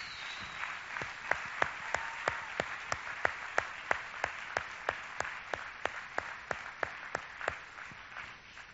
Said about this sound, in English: First of all, I want to thank God for all of the dads, all the fathers that we have here today. So can we just give all of our fathers a big hand, round of applause?